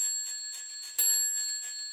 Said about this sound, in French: Soudain, la pendule sonne 3 heures.